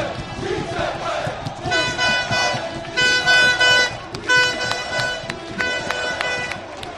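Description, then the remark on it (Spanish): Club Deportivo Tenerife football fans in Tenerife roar and shout in a dense crowd, seeing off their team as the team buses leave for the airport. Car horns blare in long, repeated toots over the noise, a loud, chaotic send-off that swells and dips throughout. “Así suena la afición del Club Deportivo Tenerife.”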